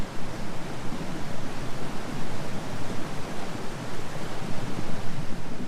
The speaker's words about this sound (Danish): De ville gå ind i huset, men da de kom til husgangen, hørte de larmen fra en stor elv, der brusede gennem husgangen.